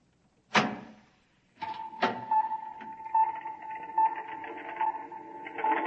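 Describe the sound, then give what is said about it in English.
A door opening: a sharp mechanical clunk, then a second click as a steady motorized whir starts and keeps running with faint rhythmic pulses, fairly loud, with no voices. “Open the door.”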